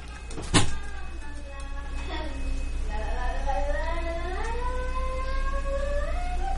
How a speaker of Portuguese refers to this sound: Peraí, vamos abrir a porta. Vamos abrir a porta.